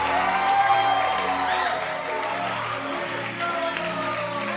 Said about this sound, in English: So clap your hands and let's appreciate our pastor.